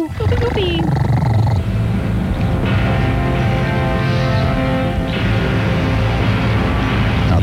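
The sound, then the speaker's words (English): A loud, sustained elephant-like trumpeting roar fills the whole stretch, rising and wavering in pitch with a harsh, layered rumble underneath, continuous from start to finish. “We have an elephant bug. Go ahead. Talk to it.”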